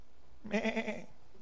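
A single sheep bleat, a wavering, quavering "baa" lasting about half a second, heard clearly on its own against a quiet background.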